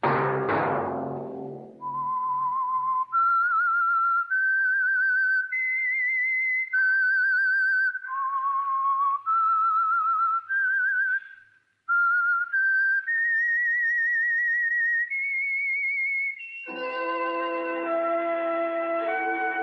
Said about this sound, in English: That whistle be your signal for the Signal Oil program, The Whistler, each Wednesday night at this same time.